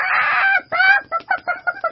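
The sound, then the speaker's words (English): A big rooster, just woken, jumps up and flaps its wings, letting out a loud, harsh screech, then breaks into a quick run of five or six choppy cackling squawks, with no talking. “Suddenly, the cock jumped up and flapped his wings. He screeched and cackled.”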